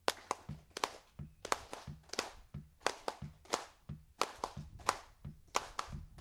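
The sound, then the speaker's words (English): A group in a hand-clapping lesson claps in unison with cupped palms, producing a steady series of deep, hollow claps about twice per second, moderately loud with no talking. “Now put your palms together like this and beat.”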